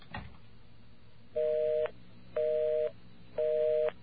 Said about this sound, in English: Well, from the moment that I finished dialing, it's kind of hard to tell on this archaic phone system here, but it took at least 3 seconds to get the busy signal. at least 3 seconds.